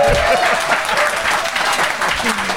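An audience claps steadily to vote for the side they think made the best case in a debate, a dense wash of many hands with crowd noise underneath and a few faint voices mixed in throughout.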